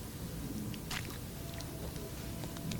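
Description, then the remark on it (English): A quiet sip of water: a brief slurp about a second in, followed by a few soft swallowing clicks over a low, steady background hiss, with no talking. “I'm going to take a strategic sip of water while you think about it.”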